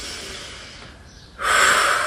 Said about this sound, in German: Ich muss kurz atmen, kurz...